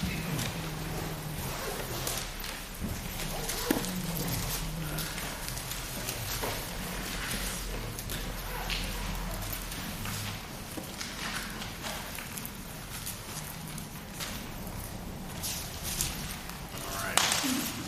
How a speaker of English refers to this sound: Still hearing pages turn. That's a good thing.